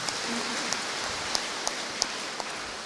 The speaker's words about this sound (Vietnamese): Vì thế mà tất cả chúng ta đang làm nên những điều kỳ diệu trong gia đình giáo phận này, chúng ta cùng có một tràng pháo tay để nói lên điều ấy.